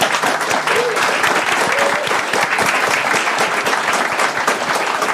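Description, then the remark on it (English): The live audience of the Level Up Human show at Microdots applauds the guests loudly and steadily, many hands clapping in a dense, continuous wash that holds its level for the full five seconds without a spoken voice. “Before we go, I want you to give our guest a huge round of applause.”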